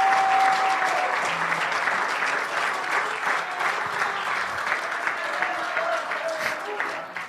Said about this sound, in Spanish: Démele un aplauso con mucha gana. Démele un aplauso con mucha gana.